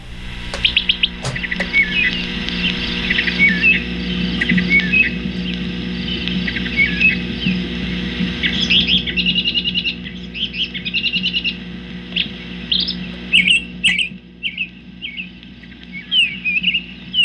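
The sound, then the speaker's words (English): A songbird sings a long run of varied, high chirping phrases, shifting between song types that imitate a black-billed cuckoo, a towhee and a robin, clear over a steady low background hum. “This bird occasionally followed a sequence of three songs, black-billed cuckoo, towhee, and robin.”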